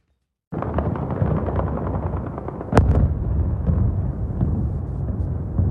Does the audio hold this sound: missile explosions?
yes